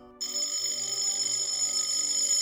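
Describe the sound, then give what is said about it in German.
An electric doorbell at a house's front door starts abruptly and keeps ringing without pause, a harsh, buzzing metallic clatter that holds steady and loud throughout, with no voices. “An der Tür klingelt's, das Tuscheln auf dem Flur wird heftiger, das Klingeln an der Haustür dramatischer.”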